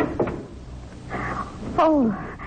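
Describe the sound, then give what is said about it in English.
A house door is unbolted from inside by a man with a few dull metallic clunks and scrapes, then swings open on a loud hinge creak that slides downward in pitch. “He's unbolting the door now.”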